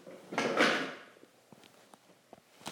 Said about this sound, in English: Trying to lock the door, so.